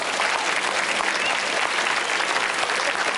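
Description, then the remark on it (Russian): An audience claps steadily, a dense, even wash of many hands at a loud, constant level with no pauses, and no voices rise above it. “Поехали под ваши аплодисменты.”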